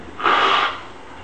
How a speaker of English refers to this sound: Okay, you'll just pardon me as I blow my nose.